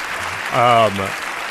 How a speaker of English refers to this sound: Long applause, deserved.